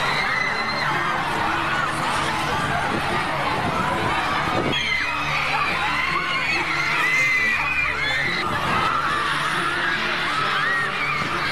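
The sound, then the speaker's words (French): A dense crowd of teenage girl fans of a pop star, who camp outside his hotels and scream, cry and faint whenever he appears, screams and shrieks continuously, many high voices overlapping into a loud, sustained roar that swells and shifts but never lets up. “qui campent aussi devant ses hôtels, hurlent, pleurent et tombent dans les pommes dès qu'il apparaît, protégé par des gardes du corps.”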